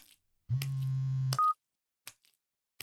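A steady low telephone tone hums for almost a second as a phone call comes in from an older sister, then a short, sharp higher beep cuts in, followed by a few faint clicks and rustles in otherwise quiet surroundings.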